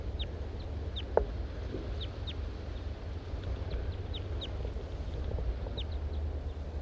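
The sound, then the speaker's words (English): Two male birds, one of them a large race male, interacting in the trees, give short, high, downward-sliding chirps in loose, irregular bursts, several calls overlapping as they answer one another above a steady low rumble, with one brief sharp knock early on. “The birds are interacting to some extent.”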